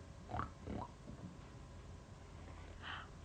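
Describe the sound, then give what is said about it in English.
A pig oinks in a few short grunts, two close together and then a single higher squeal a moment later, fairly quiet with no voices. “There's a red tractor and a pigs.”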